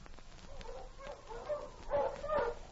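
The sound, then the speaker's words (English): Several sled dogs of Sergeant Preston's dog team bark and whimper in short, excited bursts as the team stops in the snow in front of Pierre's trading post, the yelps growing louder and more insistent toward the end, with no one talking. “It was over a week later that Sergeant Preston stopped his dog team in front of Pierre's trading post on his regular patrol through his territory.”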